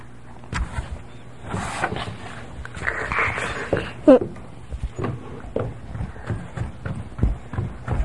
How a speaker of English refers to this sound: Wait, I hear something. Was there just footsteps? What? What were those footsteps? What did they mean?